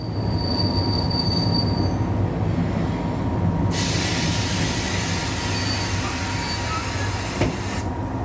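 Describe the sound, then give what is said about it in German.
A Sauschwänzlebahn train at the edge of the southern Black Forest, near the Swiss border, rumbles steadily over the rails with a low, heavy drone, then a high, piercing wheel squeal cuts in midway and holds for several seconds, sliding slowly downward before stopping abruptly. “Das war unsere Fahrt mit der Sauschwänzlebahn am Rand des Südschwarzwalds, ganz in der Nähe der Schweizer Grenze.”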